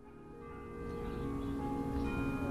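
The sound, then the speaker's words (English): A church bell tolls far off in Livingston, a small town in California's Central Valley about an hour north of Fresno, its tones lingering and shimmering with a long sustain over a low, steady background rumble. No one speaks. “A church bell tolls in the distance as a group of Punjabi men and women sit and talk outside their apartment complex.”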